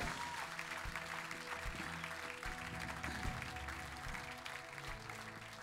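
A crowd applauds steadily, a dense wash of many hands clapping at once that holds at an even, fairly loud level throughout, with no voices standing out.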